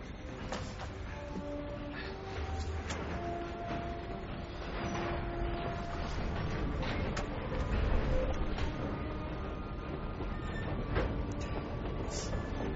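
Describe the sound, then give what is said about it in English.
A steady rumble of a train rolling along the rails, with dense low-end roar, scattered metallic clicks and squeals, and faint tonal hums layered on top, continuous throughout. “They're coming after you as soon as we start to move. You have to get off this train right now.”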